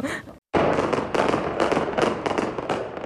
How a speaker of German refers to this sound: Ein Feuerwerk läutet eine Hochzeit ein und sie ist mittendrin.